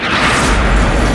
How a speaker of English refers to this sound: The bomb explodes.